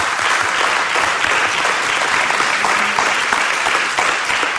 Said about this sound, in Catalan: Un fort aplaudiment, si us plau, per la primera cita.